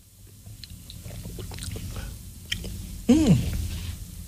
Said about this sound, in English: All right, so don't take a baby sip, but I don't think we need to chug it, right? Oh, chug it. Chug it. All right, here we go.